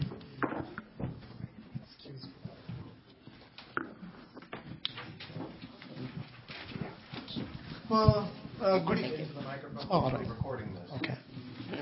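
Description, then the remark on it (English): An office chair rolls and clatters across a hard floor, with irregular bumps and knocks of moving furniture while voices murmur in the background. “Rolling chair.”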